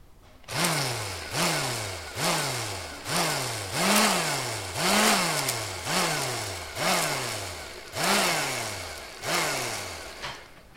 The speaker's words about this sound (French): Verse le lait, le Nutella dans un récipient. Mixe le tout pour que ça mousse.